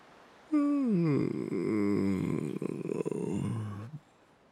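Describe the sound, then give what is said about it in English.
A big, husky yawn, opening high and sliding down into a long, groaning exhale that lasts a few seconds before trailing off, with no other sounds around it. “And when he finished, he unfurled an enormous husky yawn from his furry face.”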